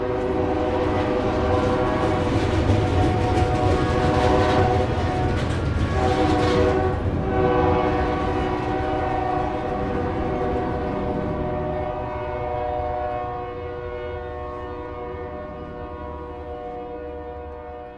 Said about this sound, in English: Sudden amplified saxophone of horns bolt us upright, fur flying. I'm deafened by the train's timpani, searing through every crevice in this house.